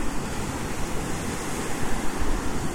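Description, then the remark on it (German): Steady roar of surf washing onto a shore, a broad rushing wash that swells and eases in soft surges, with no voices over it. “Du kannst ja noch einen Hidden Track dahinter packen, mit nur Wellenrauschen.”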